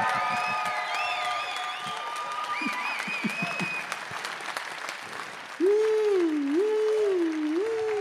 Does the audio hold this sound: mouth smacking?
no